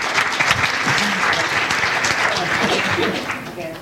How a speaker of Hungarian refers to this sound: A bátorságáért egy tapsot megérdemel.